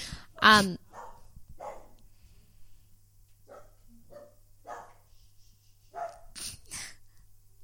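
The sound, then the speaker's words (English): A dog named Tarzo, a bit of a guard dog, barks in an apartment building: one loud, sharp bark followed by a string of softer, muffled barks spaced irregularly over several seconds against a low steady hum. “He's a little bit of a guard dog, which is not ideal when you live in an apartment building with hundreds of other people.”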